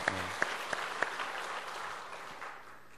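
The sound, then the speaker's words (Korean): An audience applauds together for a young child who has just sung a hymn, a dense, steady patter of many hands, with a few sharper claps standing out early before the clapping gradually fades toward the end. “우리 한번 박수하겠습니다.”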